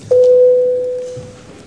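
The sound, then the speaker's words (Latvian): A parliament voting bell, rung before a vote on amendments to the electronic mass media law, sounds as one steady electronic tone, mid-pitched and unbroken, holding loud for about a second before slowly fading out, with no talking over it. “Paldies, lūdzu zvanu.”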